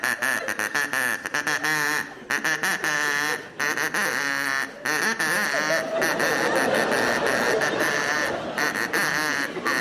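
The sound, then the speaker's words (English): A person imitates a duck, making a long run of loud, nasal, buzzing quacks, with the calls repeating almost continuously and only brief breaks between them. “Your duck”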